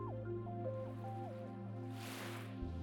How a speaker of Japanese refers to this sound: あなたは今海の中にいる。光の届かない薄暗い深海の中にいる。あなたの耳には泡の音と私の声だけが響き渡る。